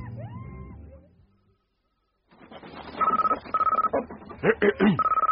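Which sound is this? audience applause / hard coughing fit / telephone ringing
telephone ringing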